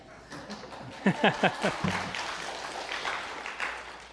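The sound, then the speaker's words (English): An audience claps in a dense, steady patter of many hands, with a few brief louder vocal bursts early on before the applause settles into an even wash. “It's all right to clap.”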